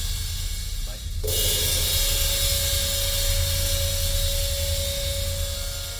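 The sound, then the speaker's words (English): Two sizzle cymbals, one on either side of the stage, as a track fades: a steady, breathy wash of cymbal sizzle swells in just after the first second and sustains as a bright hiss over a low, constant hum, never quite dying away. “And then as the track is fading, there are two sizzle cymbals, which kind of sounds like breath, and those are on either side of the stage.”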